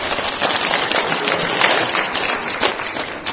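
An audience at a church service gives two people a round of applause, a dense, steady wash of clapping that holds at a fairly even level for a few seconds, with no voices standing out.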